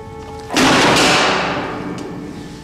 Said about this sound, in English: He unclips a leather strap and finds a hidden chamber inside the leg. A hammer drops out onto the metal tray.